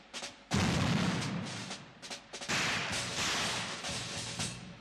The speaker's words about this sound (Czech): Z 28. června zazněly v Sarajevu osudné výstřely. Nebylo jich 7, jak se traduje, byly 2. A ten nejdůležitější byl jen jeden.